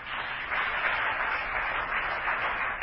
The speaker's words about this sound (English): Oh, hallelujah. Clap your hands again for the Lord.